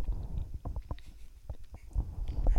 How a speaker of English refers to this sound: By the way, there is the most sensual sound of chewing here going on. She's really enjoying it.